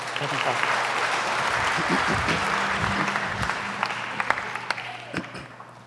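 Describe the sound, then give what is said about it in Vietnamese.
An audience applauds steadily for several seconds, a dense wash of clapping from many hands, with a low hum and faint voices murmuring underneath. “Cho ba một tràng pháo tay được không?”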